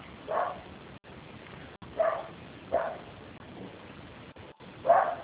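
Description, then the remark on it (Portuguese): Small dogs bark in a few short bursts, four yaps spread across a few seconds, at a home where someone is working from home, against a faint background hiss with no talking. “Então, a gente tem uns cachorrinhos aqui, meio complicado.”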